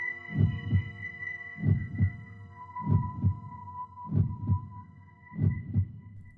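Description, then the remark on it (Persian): A steady heartbeat thuds in low double beats, five lub-dub pairs at an even, unhurried pace, over a faint sustained humming drone. No one speaks. “صدا رو میشنوی؟ قبلنم شنیدمش، صدای ضربان قلب.”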